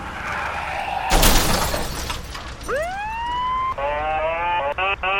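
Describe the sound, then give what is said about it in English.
A loud crash with shattering glass bursts out, then a police car siren rises in a sweeping wail and shifts to a rapid, warbling yelp. “watch out for the police car!”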